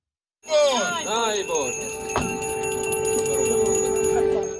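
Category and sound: signal or alarm, ringing bells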